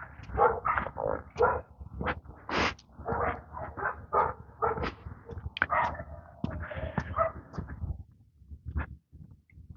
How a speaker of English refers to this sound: You can hear the dog. I'm sure you can hear the dog. Woof, woof. Arf, arf. 7 o'clock. It'll be like that until 7 o'clock tonight.